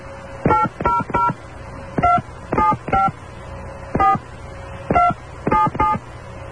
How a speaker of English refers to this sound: First, I need your area code and phone number. Please enter it using touch tones, followed by the pound key.